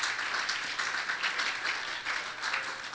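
An audience at an evening service claps their hands for a lesson just given, a dense, steady wash of overlapping claps at an even, moderate loudness that carries on without a break.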